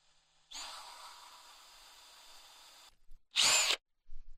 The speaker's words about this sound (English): So we're going to just tap a few notches in here and then do the drilling.